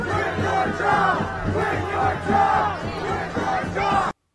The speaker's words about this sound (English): But this is Ted Wheeler, for anyone who can't see it and is listening to the podcast, being surrounded by mobs of Antifa and booed as he tries to leave.